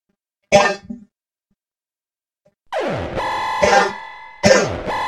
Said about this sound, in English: Coughing alarm.